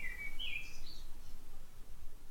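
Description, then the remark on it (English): A blackbird sings outside a window in Edinburgh, Scotland, with a short, bright fluting phrase at the start, followed by fainter trailing notes, over a steady low outdoor rumble. No one speaks. “Can you hear the Scottish blackbird?”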